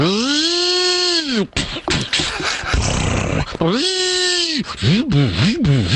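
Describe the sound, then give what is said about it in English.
A voice imitates a handsaw sawing wood: loud vocal sounds with rising and falling pitch, ending in quick rhythmic back-and-forth strokes, and some breathy, noisy bursts in between. “What was that last one? That's a handsaw.”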